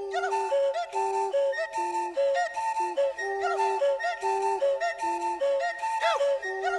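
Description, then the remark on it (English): Breathy, hollow notes blown and whistled into beer bottles tuned to replicate a Central African Pygmy one-note flute tradition interlock with voice in a steady, bouncing pattern, loud, repeating short pitched phrases throughout; this opens a song. “The way this the song opens is a combination of voice and whistling into the beer bottle.”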